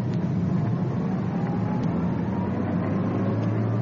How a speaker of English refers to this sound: Coming up to the corner. There's the suspect's car casually driving by. Back down the street about 300 yards, the other undercover car following.